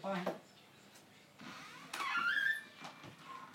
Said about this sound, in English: Shut the door? Yeah, just shut the door over.